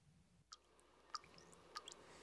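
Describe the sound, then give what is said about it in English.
A bathroom faucet with a worn washer that needs replacing drips steadily, three distinct plinking drops landing at an even, unhurried pace, soft, against a quiet hush with no one speaking. “that bathroom faucet is still dripping.”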